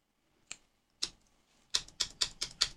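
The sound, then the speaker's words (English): Typing on a computer keyboard: two separate key clicks, then a quicker run of five or so crisp, distinct taps, with no voices. “Is the keyboard actually working?”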